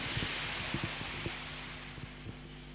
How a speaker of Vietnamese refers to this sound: Xin vị dành tràng pháo tay để lắng nghe sự chia sẻ của Đại Đức Thiện Trí.